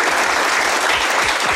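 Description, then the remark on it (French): Steady, dense applause from journalists in the room at a press conference with footballer Vinicius, many hands clapping at once in a continuous loud patter with no voices heard over it. “Applaudissements des journalistes présents dans la salle.”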